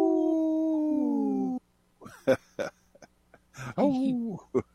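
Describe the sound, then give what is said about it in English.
Voices imitate wolf howls: one long, steady, slightly falling howl, then a short silence, followed by a rough burst of shorter yips and wavering howls. “This portion of the show is supported by Howling for Wolves, protecting wolves for future generations. Howl! Howl! Howl!”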